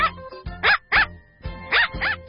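Dogs bark in two quick pairs, short sharp woofs, fairly loud, with a brief pause between the pairs and no talking.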